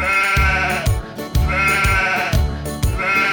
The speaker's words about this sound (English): The sheep on the farm goes ba ba ba ba ba ba ba ba ba. The sheep on the farm goes ba ba ba ba ba ba all day.